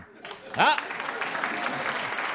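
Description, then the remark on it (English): A studio audience at a radio show recording breaks into steady, dense applause to show they recognize an old comic-strip reference, with a short rising whoop from one person near the start of the clapping. “How many of you get a Barney Google reference? Applaud now, you're on radio.”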